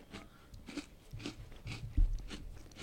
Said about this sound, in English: Yeah, so chewing some Nutter Butters.